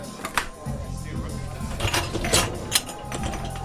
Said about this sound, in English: I'm just going to unload the dishwasher. Cycle's finished.